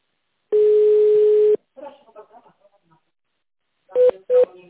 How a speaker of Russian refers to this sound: Для соединения с нужным специалистом наберите внутренний добавочный номер. Юридический отдел 1, производственно-технический отдел 2, главный бухгалтер 3, бухгалтерия 4, плановый экономический отдел 5 или дождитесь ответа секретаря.